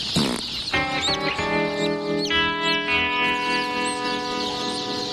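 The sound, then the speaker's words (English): Baby chicks cheep loudly and continuously while being handled for chick sexing, their shrill, overlapping calls forming a dense chorus with no talking. “There's just a couple of guys squeezing the crap out of chicks.”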